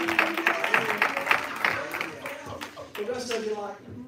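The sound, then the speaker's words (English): Scattered, uneven clapping from about four to six people, sparse rather than full applause, with a voice carrying on underneath throughout. “So you know why you're afraid to clap?”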